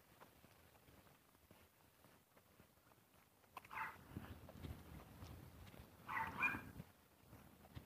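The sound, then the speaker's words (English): Outdoors on a morning walk, two dogs give two short bursts of barking and yelping a few seconds apart, over a soft background hum with faint footstep-like rustling and no talking. “She has two dogs this morning.”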